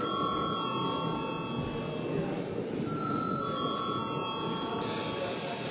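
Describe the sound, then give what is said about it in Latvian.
A Latvian parliamentary voting bell, called for before the third-reading vote on the insurance and reinsurance law, rings continuously for several seconds, a steady, bright electric tone held at an even level over a low background murmur of voices and rustling. “Paldies, lūdzu zvanu.”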